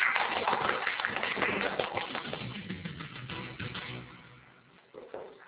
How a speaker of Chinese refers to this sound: 大家鼓掌。